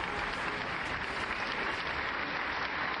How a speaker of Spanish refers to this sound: Así me gusta, el aplausito.